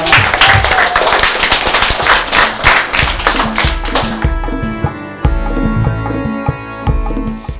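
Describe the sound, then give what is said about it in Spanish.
A burst of lively applause from a group for their teacher, dense and steady for a few seconds, then thinning into scattered, irregular claps as it winds down, with a faint tonal hum underneath. “¡Un aplauso a la seño!”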